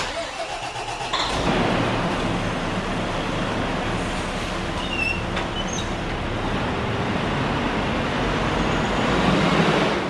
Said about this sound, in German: Das ist ein Rosenbauer Flughafenlöschfahrzeug, Panda. Neueste Generation, haben wir jetzt heuer 3 Stück bekommen. Löschleistung, er hat 12.500 Liter Wasser dabei, 1.500 Liter Schaummittel, 250 Kilogramm Pulver, absolut geländegängig,